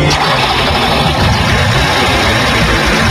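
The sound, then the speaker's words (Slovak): A cold car engine, jump-started with T350 jumper cables from another vehicle's battery, turns over and settles into a steady, rumbling idle, loud, with a continuous low throb and no voices. “Nastartují studený motor pomocí akumulátoru jiného vozidla.”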